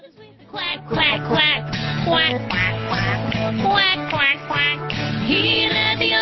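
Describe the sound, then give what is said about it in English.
Loud, nasal duck quacks repeat in a quick, rhythmic string over steady musical accompaniment, continuing through the whole stretch. “But the one little duck with the feather on his back, he led the others with a quack quack quack.”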